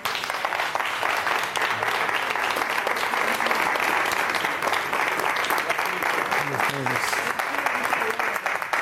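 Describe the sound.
Sustained applause from an audience, a dense steady wash of clapping at even loudness throughout, with faint voices mixed in underneath.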